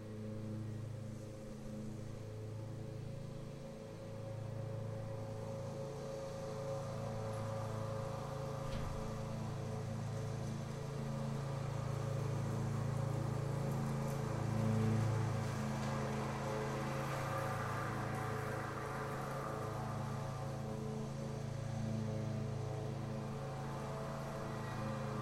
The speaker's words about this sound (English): So notice that the quality of the lawnmower is coarse. Then when it goes away, it's refined. But notice awareness is not a quality. So the quality changes. It gets louder.